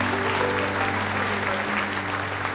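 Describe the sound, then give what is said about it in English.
An audience breaks into sustained, dense hand clapping as praise to the Lord Jesus, a steady roar of many hands at full volume with a low hum and faint voices mixed underneath. “Give Him a big hand clap of praise if you love Him with all your heart.”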